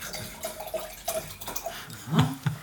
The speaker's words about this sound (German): Ganz kurz mal, wir sind vier Leute. Wieso schenkst du jetzt ein fünftes Glas ein?